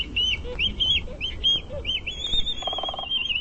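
Black-footed albatross calls: a series of loud, nasal squealing notes repeating in quick, uneven succession, with a brief buzzy honk near the end over steady low background noise.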